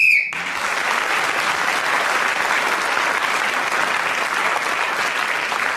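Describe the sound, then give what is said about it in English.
A short, sharp whistle blast sounds at the very start, ending a round of a game, then is immediately swallowed by loud, sustained applause from a crowd that continues steadily to the end. “Clement Freud was speaking then when the whistle went”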